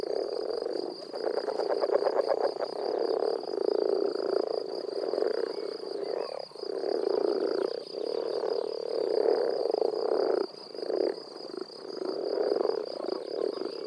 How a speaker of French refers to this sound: Vous l'avez sûrement deviné, on parle ici de la grenouille rousse. Et à l'état adulte ou de têtard, elle est la bienvenue dans mon jardin.